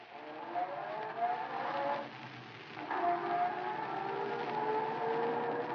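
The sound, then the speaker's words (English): A car engine runs and pulls away as the driver starts the car up again after a stop, its pitch climbing as it accelerates, dipping briefly as if shifting gear, then rising again in a steady drone with no voices. “Well, you can start up again.”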